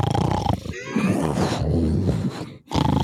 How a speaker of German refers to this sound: Wir hören Schnarchen.